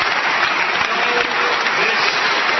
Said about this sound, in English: Listen to the wing nuts applaud. Oh, they loved it when he said that equality is a European value, because those people don't want to be equal.